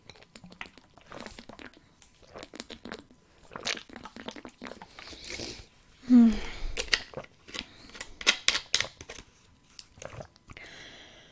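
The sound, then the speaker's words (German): Someone drinking still water: a run of wet sips, gulps and swallowing clicks in an irregular rhythm, with one louder gulp midway and no talking. “Damit ihr mich auch fein trinken hört, erstmal geprüft, ob hier das Aufnahmeding noch weiterläuft.”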